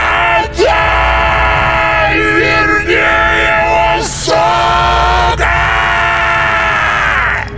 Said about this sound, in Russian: Мне показалось, что глаза полыхнули алым светом, когда мы пронеслись мимо, а затем до нас донесся пронзительный вопль.